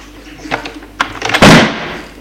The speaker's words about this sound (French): Mais trop tard, la porte de l'appartement a claqué.